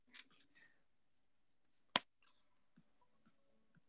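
A single sharp slap on the cheek cracks out, a brief bright smack standing alone amid near silence, with a few faint soft rustles and murmurs around it.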